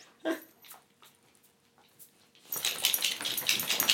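A dog gives a brief whimpering sound amid faint snuffles as it falls over backwards, then loud, steady scuffling and rustling of movement fills the last second and a half, with no one talking.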